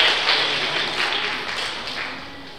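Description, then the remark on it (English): A church audience claps for the ushers in a dense, steady burst of applause that gradually tapers off, with no voices standing out over the clapping. “Let's clap for them.”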